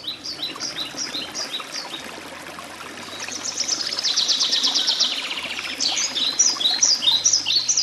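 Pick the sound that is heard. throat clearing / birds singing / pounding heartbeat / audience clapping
birds singing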